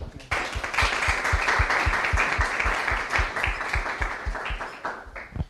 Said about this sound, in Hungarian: egy nagy tapssal köszöntsük őt.